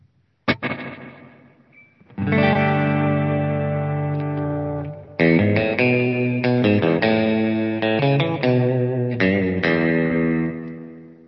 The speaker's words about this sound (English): Really good sounding reverb.